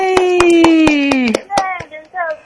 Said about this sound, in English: she deserves a round of applause. And so does Bruce Willis the dog.